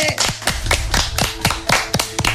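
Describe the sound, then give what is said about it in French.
A short burst of applause from a small group welcoming a guest introduced as representing the show J'ai la ref, with quick overlapping claps that are fairly loud and carry on steadily for a couple of seconds. “Veuillez applaudir”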